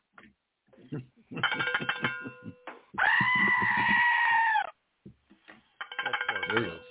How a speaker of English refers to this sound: What did that goat see that made him screech like that? He was just saying hi.